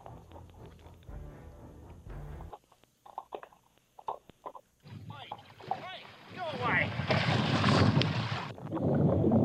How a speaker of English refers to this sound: A couple guys were fishing for snapper when a great white shark started circling their boat. That's not a good sign, is it? Nope. They stuck a GoPro in the water and recorded the shark biting the boat. Here's what it sounded like.